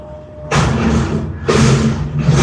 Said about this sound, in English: Right now, I have the freedom to hear now next door to me, as you're hearing right now, all the ruckus in the street. My purpose left this open so you hear all the noise. So you hear all the things in the city, because I live right in the city